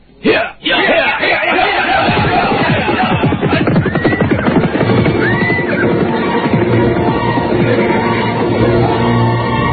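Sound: horse hoofbeats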